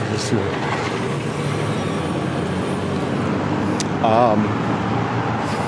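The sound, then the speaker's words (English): A car drives past along a road with a steady, fairly loud engine and tyre rumble that fills the whole stretch, and a brief voice-like wavering tone rises near the end. “Watch out for old people driving the cars.”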